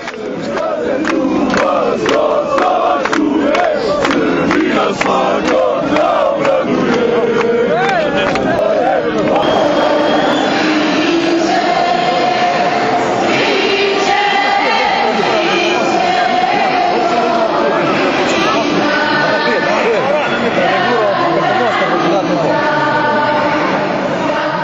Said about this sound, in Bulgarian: Антиалбански и антиамерикански викове и плакати, протестиращите тръгнаха от центъра на сръбската част към моста. Стигнаха до там обкръжени от журналисти и посрещнати от полицаи.